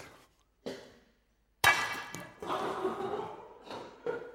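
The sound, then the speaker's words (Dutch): A single sharp crack of an egg being smashed against a bowl on the floor, with a brief ceramic ring, followed by a few seconds of rustling, messy sounds. “Het ei is kapot.”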